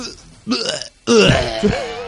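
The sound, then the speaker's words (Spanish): A voice imitates a younger brother vomiting: a short, harsh retching heave, a brief pause, then a longer, louder gurgling retch with throaty, strained groans. “me lo veo que ha vomitado”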